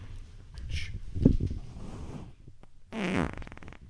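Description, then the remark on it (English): A fairly loud fart: a low, sputtering rumble that swells and fades, then a brief pause before a longer, buzzy, raspy stretch at the end. No one speaks. “I got a fart.”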